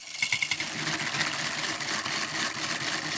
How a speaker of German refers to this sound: In der Salatschleuder. Was ist das denn? Das ist diese Plastikschüssel mit dem Sieb drin. Da hinein kannst du die Salatblätter geben. Den Deckel schließen. Und dann an der kleinen Kurbel oben auf dem Deckel drehen.